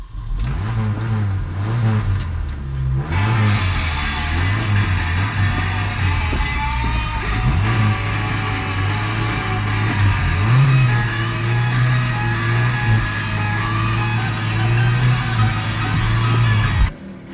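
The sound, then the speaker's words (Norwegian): A car engine revs loudly and steadily in the long intro of a well-known rock song, its pitch rising and falling in repeated surges over a sustained mechanical drone, with a broad whirring hiss on top and no voices. “Vi kan begynne med om det er en bil eller motorsykkel. Jeg føler dette må være en bil. Det er riktig.”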